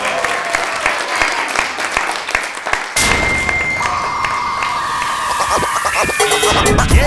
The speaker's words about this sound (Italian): Grazie a voi, un abbraccione e fatevi un applauso. Siete stati bravissimi.